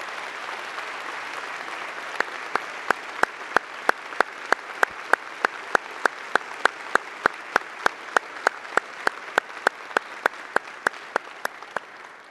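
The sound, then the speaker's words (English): A church audience gives a clapping ovation in support of a couple from the 9 o'clock service: a sustained wash of clapping, with one sharp, steady rhythmic clap cutting through evenly the whole time. No one speaks. “Mark and Lori, they are in the 9 o'clock service, and so they're not part of this service, but I just want you to give them a clapping ovation just so that they know that you support them as a church family.”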